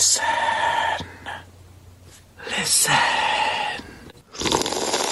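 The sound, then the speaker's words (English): Several loud slurps in a row, airy sucking bursts with a wet, whistling edge and short pauses between them, as someone noisily slurps tomato soup off a spoon. “I was slurping tomato soup.”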